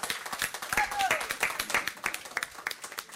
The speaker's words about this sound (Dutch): Hey, heel even tussendoor, want ik zie dat onze schoonspring superoma moet vertrekken. En ik vind het heel leuk als we haar even een applaus willen geven en haar uitzwaaien.